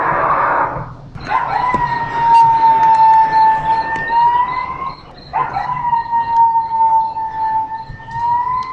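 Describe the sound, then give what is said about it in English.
A coyote, played at an interactive wildlife display in Mission Trails Regional Park, lets out two long, sustained howls, each holding a steady, slightly wavering pitch, loud, after a brief burst of rough noise at the start. “Let's go in now and listen to some of the interactive displays where you can hear wildlife of the region, such as coyotes, mountain lions, owls, hawks, eagles, and much more.”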